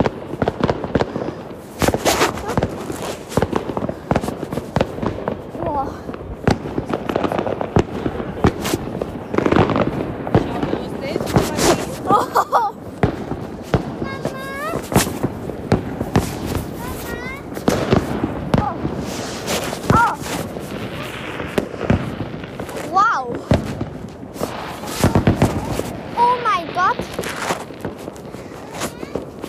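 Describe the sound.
New Year's fireworks burst in a dense, irregular barrage of loud bangs and crackles, with a few rising whistles threading through and voices faintly audible beneath.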